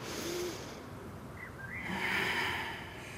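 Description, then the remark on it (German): A slow, deep breath drawn into the belly and then let out, two airy, breathy swells with no talking. “Er atmet tief in seinen Bauch hinein.”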